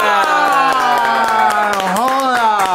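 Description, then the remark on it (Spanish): Audience applause welcoming a guest, in a loud, steady rhythm of sharp claps, about four per second, over a sustained held voice-like tone that bends upward in pitch near the end. “El aplauso mundo entero para recibir a mi hermano del alma”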